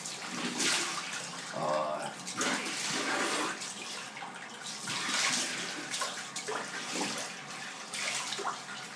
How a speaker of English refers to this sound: Okay, there's the water rinsing off, and then I'm going to go.